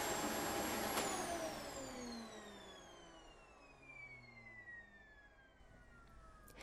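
A vacuum cleaner hums loudly with a high motor whine, then is switched off and its pitch slowly winds down over several seconds. No voices.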